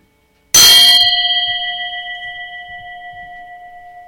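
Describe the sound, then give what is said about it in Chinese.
A single bell is struck once in a meditation listening exercise, giving a sharp metallic strike followed by a long, steady ringing tone that slowly fades over several seconds in an otherwise quiet space. “我们再听一次钟声下，试验一下。”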